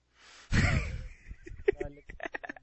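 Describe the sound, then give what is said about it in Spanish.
A deep breath: a soft, airy inhale followed by a loud, forceful sigh of an exhale, then some brief indistinct vocal sounds. “Respire, tío. A ver, respire. Inhale color verde.”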